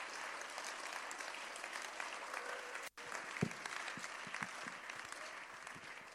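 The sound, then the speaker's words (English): An audience applauds steadily, a dense wash of many hands clapping together for about six seconds, with a brief sharp break partway through before the clapping resumes at the same level. “As for this one, if you won't clap, it's okay.”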